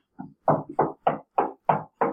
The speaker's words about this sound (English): Is someone knocking? Am I hearing that? Yeah. That's just in my head. Oh, okay.